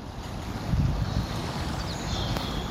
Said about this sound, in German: Ein stiller Märztag am Kennet and Avon Canal nahe Newbury, Berkshire. Rundum nur Wasser, hohes Gras und Bäume.